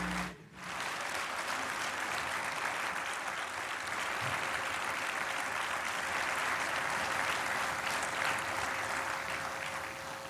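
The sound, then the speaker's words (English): Thunderous applause from a church audience as a new pastor steps up to the pulpit at his first service in December 2005, a dense, steady roar of clapping that holds loud and even for about ten seconds after a brief dip at the start, with no talking over it; noisy recording. “When he stepped up to the pulpit, he was met with thunderous applause.”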